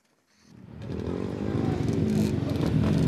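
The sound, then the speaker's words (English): Small engines buzz to life and build steadily: about 50 riders of the ATL Bike Life group rev dirt bikes and ATVs and do wheelies outside a park in southwest Atlanta. The dense snarling drone grows louder over a few seconds with rising throttle bursts. “In Atlanta, the buzzing of dirt bikes and ATVs grows loudest on Sundays.”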